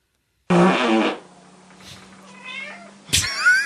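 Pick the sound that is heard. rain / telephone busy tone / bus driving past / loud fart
loud fart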